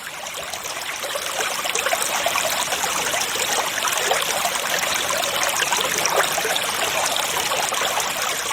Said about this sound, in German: Habt ihr schon mal einem Bach zugehört? Die erzählen ganz tolle Sachen. Man muss nur leise genug sein, ehrlich. Hört mal genau hin.